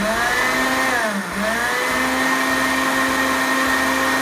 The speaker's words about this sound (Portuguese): Olha só que lindo, né? Deixa eu desligar esse liquidificador aqui um pouquinho.